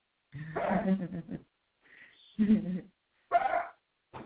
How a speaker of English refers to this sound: Oh, there goes the doggy. He's always doing that. Papa always wants to be heard.